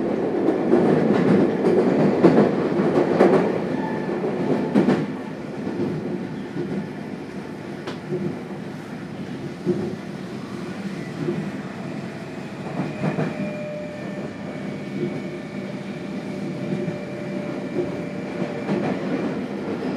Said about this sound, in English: The next stop is Kotakemu Kaihara, F6. This train is bound for Wakoshi. Please change it for the same line.